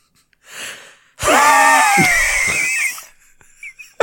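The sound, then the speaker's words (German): A short breathy exhale, then a loud, strained, nearly two-second forceful exhalation with a rough gagging edge, a person with the head leaned far into a toilet bowl imitating a retching attempt without using fingers. “Atmet sehr, sehr kräftig Hilfe.”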